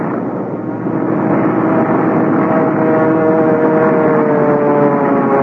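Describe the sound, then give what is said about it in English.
A loud airplane engine roars steadily as the plane lands and shears sideways, its droning tone climbing slightly over about five seconds, with rushing noise throughout and no voices. “I remember the plane landing and then shearing sideways before I had time to cut the engine.”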